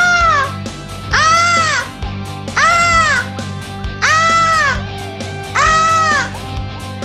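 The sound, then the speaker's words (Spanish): A phone caller from Ferrara, Italy imitates a peacock's call: four loud, high, wailing cries, each arching up and down, repeated at a steady rhythm with short gaps over a low hum. “Para entregarnos el sonido de un pavo real.”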